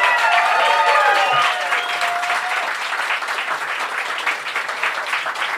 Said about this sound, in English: Everybody, thank you so much for coming. Please continue your applause